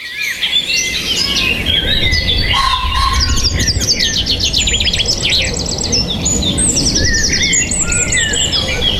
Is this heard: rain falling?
no